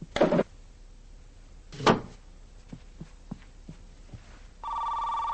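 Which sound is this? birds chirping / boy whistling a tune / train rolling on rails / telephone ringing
telephone ringing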